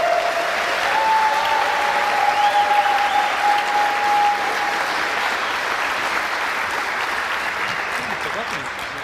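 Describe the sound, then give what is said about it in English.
Sustained audience applause for the final team, Heaven, as they come up on stage. A dense, steady clatter of many hands clapping holds loud for several seconds before tapering slightly, with a faint whistle-like tone riding over it early on. “So please, a huge round of applause for the Heaven.”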